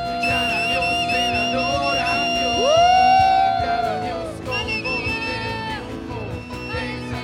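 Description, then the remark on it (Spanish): An audience shouts and cheers to God in worship, a loud, sustained wall of voices, with one rising whoop swelling above the crowd midway before the clamor continues steadily. “Otra vez, gritad a Dios con voz de triunfo.”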